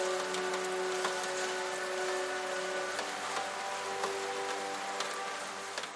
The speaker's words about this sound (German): Die Tropfen tanzen über die nassen Fenster und malen mit jeder Bewegung neue Muster auf das Glas.